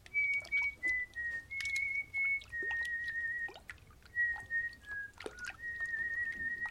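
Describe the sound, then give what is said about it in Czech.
A younger fisherman putting away his fishing rod at a quiet spot on the Lipno reservoir whistles a steady, wandering tune, sustained notes shifting pitch in short phrases, over water trickling and dripping with occasional faint chirps of water birds. “Mladší uklízel rybářský prut a pískal si.”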